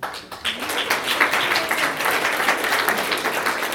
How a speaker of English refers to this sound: And those applause goes out to all the Greens in New York that were steadfast in saying we're staying by this because it is so important.